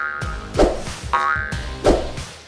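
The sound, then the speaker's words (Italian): Two springy, wobbling boings of robust elastic bands on a braking vest, running from the hips to the elbows, as a ball is passed. They bounce in quick succession, each with a bright twang over a rubbery low vibration that trails off, fairly loud with no talking. “Così quando passo la palla, gli elastici attutiscono la forza esagerata delle mie braccia.”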